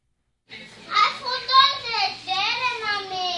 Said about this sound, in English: Children and parents crowd the waiting room in the United Health Center's clinic for low-income patients in Parlier.